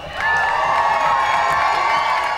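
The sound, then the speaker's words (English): A baseball crowd at a Batavia Muck Dogs game in Batavia cheers loudly and steadily, a dense roar of shouts and whoops with some high children's voices, sustained for the full couple of seconds without letting up. “I said, let's make some noise for our guys.”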